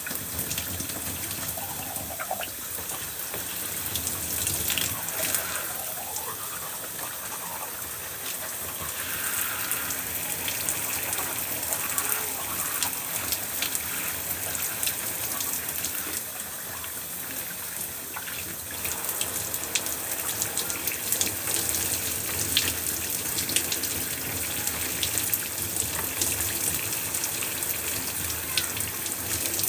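shower water running

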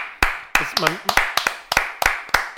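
hand clapping

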